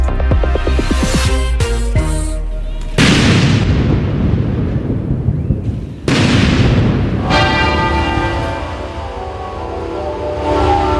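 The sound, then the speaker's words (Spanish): Heavy cannon booms fire at intervals in a 96-gun salute marking the death of Queen Elizabeth II, each blast rolling out in a long echo, while church bells ring in a steady peal at midday across Great Britain. “Cañonazos, 96, como la edad de la reina, y en su memoria, campanas a través del país al mediodía en Gran Bretaña”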